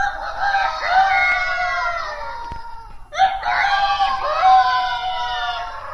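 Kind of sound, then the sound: vocal imitation, imitated rooster crowing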